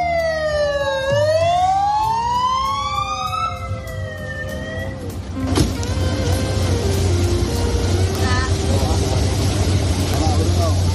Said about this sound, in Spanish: llegó a la comisaría central como si una alta institución del Estado se tratara, custodiado y con la sirena sonando.